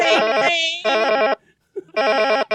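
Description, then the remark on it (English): A loud electronic telephone ring, like an international call, sounds in two warbling, buzzy bursts separated by a short silence, with a brief steadier tone in the middle of the first burst. “It actually sounds like an international call.”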